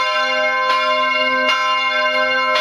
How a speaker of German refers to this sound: Wobei Graz auch anders kann, also durchaus majestätisch beim Grazer Dom. Den sehen wir von hier oben auch sehr schön, zwischen den Häusern der Altstadt so herausragen. Da hört sich das Glockengeläut schon gleich deutlich pompöser an.